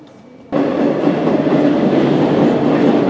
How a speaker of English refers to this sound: On the metro to Saint-Georges.